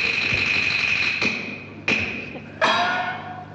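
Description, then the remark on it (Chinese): Three firm knocks on a door, spaced unevenly over a few seconds, each with a short ringing decay, against a steady background hum with no voices. “外面何人叫门？”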